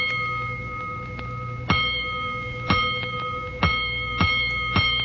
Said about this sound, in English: Soon after the now raging firemen returned to quarters, the great gong that sounds alarms tapped in during the night rings out.